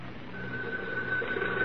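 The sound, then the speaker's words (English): A telephone rings, heard as a thin, steady tone that starts a moment in and holds over a low, muffled background hum, with no one talking. “He should be making several phone calls right about now.”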